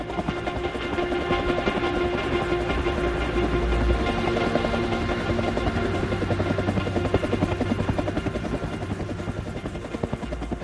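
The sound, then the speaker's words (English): A helicopter drones steadily overhead, its rotor chop pulsing in a fast, even rhythm over a deep engine rumble that stays loud throughout, with no voices. “I heard the helicopter.”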